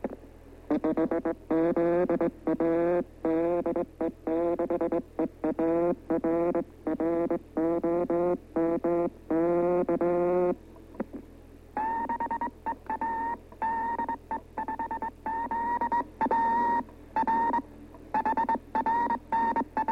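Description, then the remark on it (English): Two half-kilowatt spark transmitters, recorded for demonstration, overlap, each sending rapid bursts of keyed tones in a choppy rhythm over a steady low hum; frequency variation gives the different tones. The pitch and pattern of the bursts shift partway through, and no one speaks. “Two stations going at the same time.”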